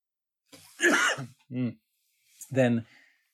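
A few fairly loud coughs and throat-clearing sounds, an initial harsh burst followed by two shorter voiced hacks after a brief pause, with no talking.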